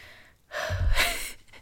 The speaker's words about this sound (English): Sorry if my breathing annoys you during this.